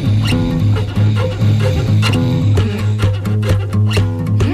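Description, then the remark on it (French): A person imitates a cat purring, helped by phlegm in the throat, a loud, throaty rumble that pulses rhythmically and runs continuously for several seconds without any talking. “J'ai un glaire dans la gorge. Du coup, j'arrive bien à ronronner.”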